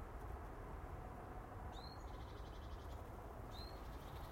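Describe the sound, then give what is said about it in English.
Two sharp, high blackbird calls ring out about two seconds apart, close to the microphone, over a steady rush of wind noise as a female blackbird chases a male past the microphone and away from a tree, on an overcast, dry morning. “I don't know if you heard that, but he almost took the hairs at the end of my nose off as Mrs. Blackbird chased him away from the tree.”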